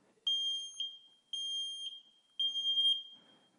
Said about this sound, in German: Weiß einer, was das ist? Oh, scheiße laut, wa? ein Feuermelder.